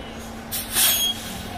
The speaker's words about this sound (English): Here at an intersection, you can hear the rumble of the gas car engines next to the quieter electric bus. Now, admittedly, the air brakes still make their distinctive squeak.